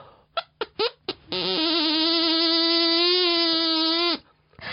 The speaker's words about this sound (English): I'm on the spot, but I'm kind of a pro straw whistle player. So I've actually turned this one into a tin whistle, but we'll go for it. So I'm going to put it into my mouth like this and just blow over, and it's going to vibrate and create some sound.